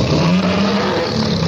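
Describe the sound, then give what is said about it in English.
A loud, sustained tiger roar rumbles without a break for over a second, deep and growling with a gritty, engine-like texture, in an Esso Extra Gasoline advertisement. No one speaks over it. “Then there's a Tiger in your tank.”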